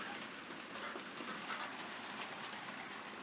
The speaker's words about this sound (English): Lovely weather. Autumn's coming, you can tell it's autumn. It's always rainy in England in autumn.